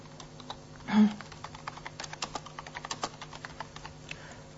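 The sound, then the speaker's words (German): Rapid clicking of keys on a computer keyboard as the subject of an email is typed in, a steady flurry of light taps, with one slightly louder thump near the start and no voices. “Ich kann auch noch Kopien weiter verschicken, dann den Betreff eingeben, die Mail.”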